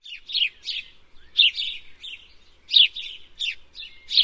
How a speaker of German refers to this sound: Hör mal, wie die Vögel im Garten zwitschern. Tirili, chip, chip. Chip, chip, macht der Spatz.